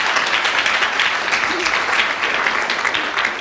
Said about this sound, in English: Only the second time, that this has happened, that somebody has spoken for just a minute without being challenged, and I think an extra round of applause, as well as a bonus point,